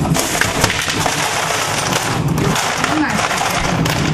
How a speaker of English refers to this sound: On the top is the freezer. Rattle the ice tray.